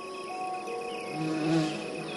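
Honeybees buzzing in a steady, droning hum with a thin high whine layered on top, swelling slightly louder just past the midpoint before settling back. No voices.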